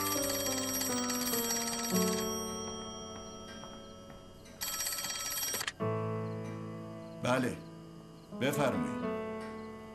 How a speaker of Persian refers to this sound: قربان، تلفن با شما کار دارم.